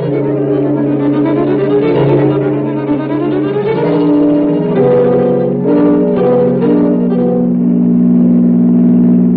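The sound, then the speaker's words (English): A car engine revs loudly and steadily while driving toward a blazing fire, smoke entering the car, its pitch climbing and dipping as the motor works through gears, continuous for the whole stretch with no voices. “Smoke's coming in the car now.”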